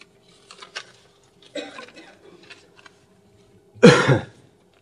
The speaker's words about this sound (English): Do you have more of that cantil? Seems to have reduced the coughing. Temporarily beneficial.